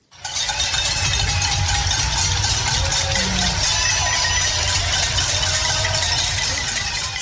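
In the West End of Vancouver at 7 o'clock, a dense, continuous din of many people banging metal pots and clapping, with clanging and rattling throughout and a low rumble underneath; no one speaks.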